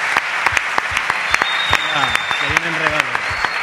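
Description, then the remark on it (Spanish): A steady burst of clapping from a small group welcoming studio guest Iván Alejo, a Cádiz footballer; dense and continuous with sharp individual claps standing out, while a voice speaks briefly over it near the end. “Un aplauso noches. Para Iván Alejo, jugador del Cádiz.”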